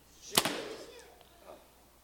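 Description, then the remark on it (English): A sharp snap of a bowstring releasing an orange arrow, the first shot of the morning, a single crisp twang at the start followed by a faint thud and soft rustling fading out. “First arrow out this morning and I've sent.”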